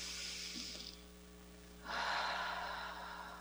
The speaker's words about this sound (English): So let's take a moment to just breathe and tune in to wherever you are and whatever you're doing, becoming as present as possible to this very moment. Taking a breath with me, breathing in and out.